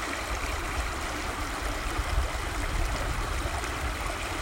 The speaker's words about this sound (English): It's amazing to think, really, what this water flowing through this stream has experienced over the years, as industry comes and goes and the landscape continues to change under humanity's hand.